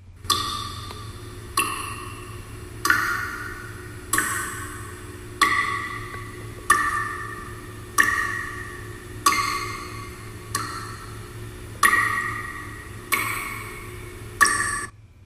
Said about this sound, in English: All that really is water dripping into a bucket, but the ominous sounds and the echoing and the music being played in the background gives it a real horror feel.